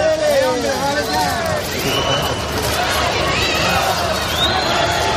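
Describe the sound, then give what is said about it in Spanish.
A large crowd jeers loudly and continuously at Sánchez, who arrives accompanied by the king, with long drawn-out boos and shrill whistles rising over a dense roar of voices throughout. “Sonó un poco a eso, sonó a Sánchez ha utilizado al rey de parapeto ante los abucheos del público, aunque en Moncloa lo negaron y dijeron que eso era de malpensados.”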